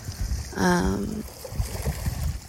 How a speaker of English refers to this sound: Can you hear the ocean? I'm sitting on a pier.